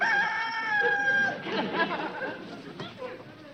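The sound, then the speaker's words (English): A rooster lets out one loud, drawn-out crow, then its call breaks off into a busy jumble of clucking and barnyard chatter. “Imagine that, a farm without a rooster.”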